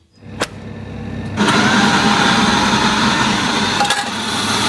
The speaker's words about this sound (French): C'était une machine à espresso.